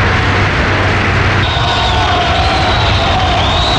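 An audience applauds in a dense, steady wash of clapping that stays loud throughout, with thin whistle-like tones rising faintly above the noise partway through.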